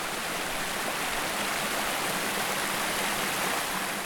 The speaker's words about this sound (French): Explication depuis un petit ruisseau à Creissel, affluent du Tarn. Alors ici on est sur un tout petit ruisseau qui s'appelle le ruisseau des Cascades